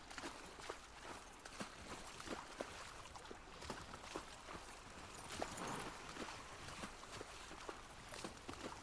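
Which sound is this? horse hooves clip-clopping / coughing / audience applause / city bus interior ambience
horse hooves clip-clopping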